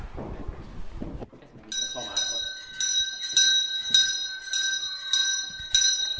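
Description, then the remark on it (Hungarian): A school bell starts ringing for class as children come in, after a brief murmur of voices, a shrill, high metallic clang that keeps sounding steadily with a rapid pulsing rhythm until the end. “Megtörténik a becsengetés.”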